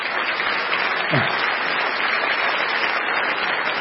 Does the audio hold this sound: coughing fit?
no